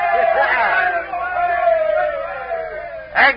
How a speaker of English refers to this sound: Yes, we're saved. We're saved. Give a cheer, lads. We're saved.